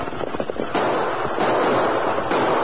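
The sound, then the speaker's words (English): A gun is fired into the air: a loud gunshot cracks out, followed by a dense, crackling rumble of noise that stays strong and steady for a couple of seconds, with no voices. “Fire your gun into the air.”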